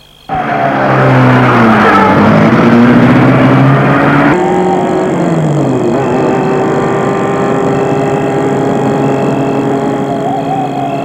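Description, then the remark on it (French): A car engine turns over and catches, then revs loudly and pulls away, its steady rising drone holding strong for several seconds with no voices. The car is started at the opened gate of an illuminated property. “L'oncle retourne à la voiture. Il y rentre. Et la met en marche.”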